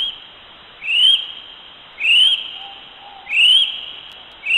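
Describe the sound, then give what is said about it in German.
A kiwi, a small flightless bird typical of New Zealand, calls in a series of loud, rising shrill whistles, repeated about once a second, ringing clearly over a steady high hiss. “Der Kiwi ist ein kleiner, flugunfähiger Vogel, der sehr typisch für Neuseeland ist, und so hört er sich an.”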